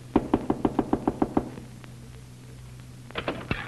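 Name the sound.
knocking on a door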